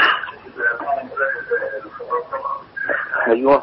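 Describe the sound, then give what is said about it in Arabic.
Television sound in a caller's background comes through a phone line during a call-in broadcast: muffled, tinny broadcast voices play steadily for a few seconds, fairly loud and slightly echoey, with no clear foreground speaker. “ايوه وطي التلفزيون واسمعنا من التليفون من فضلك عشان تبقى في استرسال، او حاول تبعد عن التلفزيون للعالم العربي كله.”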